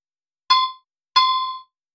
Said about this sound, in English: You've probably guessed what you can hear now is a ringing stone. The distinctively clear tone of the stone has given it its name, ringstone. In geology, the Greek term phonolith is used, and this can be translated as musical stone.